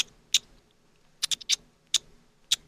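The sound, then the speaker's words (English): A person imitates a parakeet in an animal-impression contest: short, shrill chirps, about seven quick squeaks in irregular bursts, several bunched in a rapid cluster midway, fairly quiet and with no talking. “I can do parakeet.”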